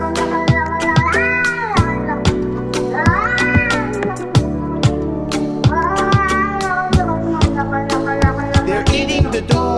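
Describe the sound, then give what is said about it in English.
Repeated cat meows in a musical remix of Donald Trump's debate remarks about people eating cats, rising and falling over a loud, steady electronic beat with deep bass and sharp percussive hits, the meows recurring every couple of seconds as part of the music. “They're eating the cats. Meow, meow, meow, meow.”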